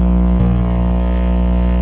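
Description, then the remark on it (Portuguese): A small motorbike engine accelerates beside a person on a phone call, buzzing loudly in a steady, throbbing drone with a rich harmonic hum that holds throughout, with no voices over it. “Parece que tem uma miquinha acelerando do seu lado.”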